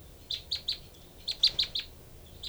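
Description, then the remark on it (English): Two birds trade short, high chirps in little bursts: the female gives a call of three then four notes, and the other bird answers with three then five, ending on a single chirp. The exchange is moderately quiet, with no talking. “Both birds here.”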